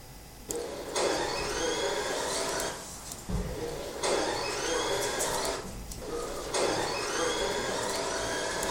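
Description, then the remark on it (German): The engine of a car that has stalled cranks in three separate attempts to restart it, each a couple of seconds of loud, whirring mechanical grinding, with brief pauses between, and it never catches and runs. “Ich versuche es nochmal zu starten.”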